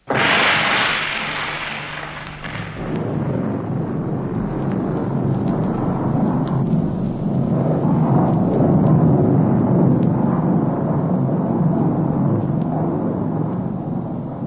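A loud, sharp explosion bursts out, then gives way to a long, heavy rumbling roar of hundreds of tons of crashing ice and snow that stays strong for over ten seconds, from an artificial avalanche release.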